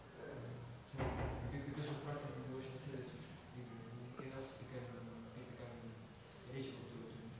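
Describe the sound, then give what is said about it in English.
A door being unlocked and pushed open: a sharp knock-like clatter of the latch, then faint handling noises while voices murmur in the background. “Someone locked in his room? Can you check? Isn't it yours? Locked in his room? Oh, this door.”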